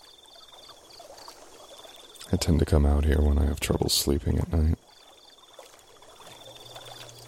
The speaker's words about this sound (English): The sounds of the water and the nocturnal animals are oddly soothing.